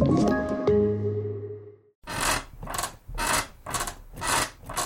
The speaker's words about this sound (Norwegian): Slutt å forstyrre naboen med den knirkete senga di.